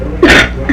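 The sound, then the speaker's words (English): A single short, explosive sneeze-like burst of breathy noise, fairly loud, followed by a brief softer vocal sound and then quiet. “Gesundheit.”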